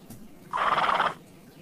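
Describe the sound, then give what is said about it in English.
A single loud horse whinny, a brief shrill, quavering neigh lasting about half a second with no one talking over it, played as a sound effect from a sound effects program. “A horse.”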